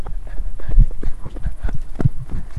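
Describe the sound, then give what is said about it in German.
Pigs grunt in a quick, steady rhythm, a series of short, low, throaty pulses repeating over a couple of seconds, with no talking. “Dieses Dit-Dit-Dit waren wir nicht. Das waren die Schweine.”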